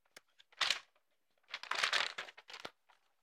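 Paper crinkling for ASMR in irregular bursts: a short rustle, a pause, then a longer stretch of crisp crackling and crumpling, fairly quiet with no voices.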